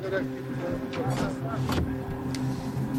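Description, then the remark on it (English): Steady low engine drone and road rumble from inside a moving car on a five-hour drive to Lashkargah in Helmand province, with occasional soft thumps and indistinct, muffled voices underneath. “While we are in the car, we realize that Kalimullah is now the mayor of Lashkargah.”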